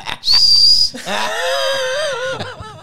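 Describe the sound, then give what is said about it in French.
A person whistles: a loud, shrill, steady high note held for about a second, then a lower, wavering tone that slides in pitch for a couple more seconds. “J'adore siffler, en tout cas”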